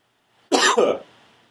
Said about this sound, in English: Okay, I'm going to cough. And then we can start.